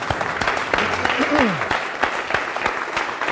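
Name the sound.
audience clapping hands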